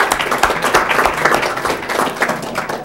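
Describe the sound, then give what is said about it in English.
A group applauds, many hands clapping in a dense, steady patter that stays fairly loud for the whole few seconds, with no voices over it. “So, a round of applause.”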